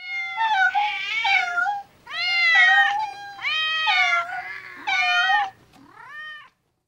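Several cats of a cat family meow in close succession, four or five loud, drawn-out mews with rising and falling pitch, some overlapping as if more than one cat is calling, with no talking.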